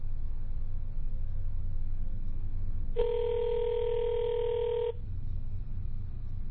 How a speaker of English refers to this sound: Come on. Come on, man. Pick up the phone, boy.